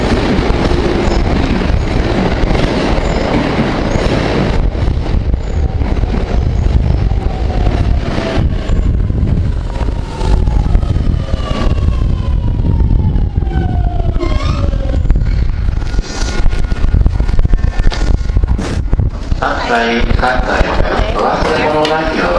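A light blue Japanese train pulls into a station with a steady, loud rumble while high electric motor whines slide downward in pitch as it slows, ending in a rattling squeal near the stop.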